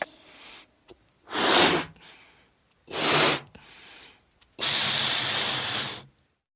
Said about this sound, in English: That's right. It's a balloon.